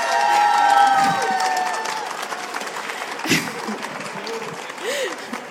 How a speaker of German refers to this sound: Deswegen habe ich mir überlegt, vielleicht begrüßen wir sie einmal mit einem ganz fetten Applaus, damit sie keine Angst mehr vor euch hat. Ein Applaus für Usora-Sensei.